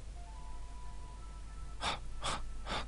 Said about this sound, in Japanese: はっはっはっと荒い吐息。校門のところで振り返ると、そこには血の海の色をした人面犬が立っていた。